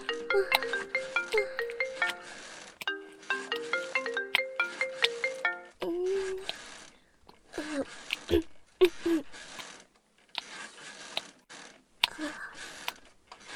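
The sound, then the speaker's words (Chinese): A phone's electronic ringtone melody plays loudly in two repeating bursts for an incoming call from the husband, then gives way to softer, irregular clicks and rustling. “我接下老公的电话。我要是不接的话，他就会一直打的。”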